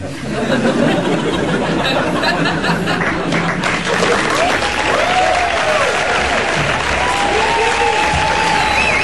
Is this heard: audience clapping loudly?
yes